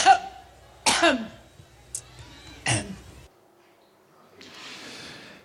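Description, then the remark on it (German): Three sharp coughs burst out at uneven intervals, with a small catch of the throat between them, followed by a soft rushing noise as things settle. “Das waren sie, die 11 Huster.”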